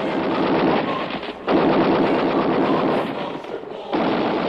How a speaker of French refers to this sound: Les canons, les mortiers et les mitrailleuses font feu.